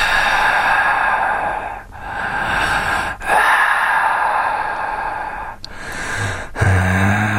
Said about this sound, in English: Okay, first of all, this is labeled as just breathing, but the whole see, he's breathing now, but he was going before.